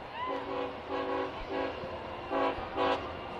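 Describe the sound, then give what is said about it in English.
A passing train sounds a short rhythmic jingle of several horn blasts over the steady rumble of the train rolling by a ballpark during a baseball game. “Train rolling by, saying hello to everybody at the park. That train did a little jingle with the horn.”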